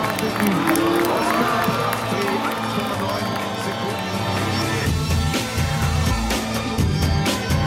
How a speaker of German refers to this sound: Für Mercedes. Da hört man auch den Jubel im Hintergrund.